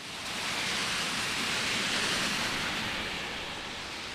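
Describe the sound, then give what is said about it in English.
Steady rain falling outdoors on a Friday morning at the street corner of 17th Street and Hospital Plaza Drive, where a half dozen protesters stand with signs; a dense, even hiss that holds at a constant moderate level throughout, with no voices or other distinct sounds. “On a rainy Friday morning, a half dozen protesters are standing at the corner of 17th Street and Hospital Plaza Drive with signs opposing abortion.”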